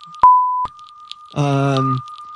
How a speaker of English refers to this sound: A lot of beeping in there. You can only imagine what he said.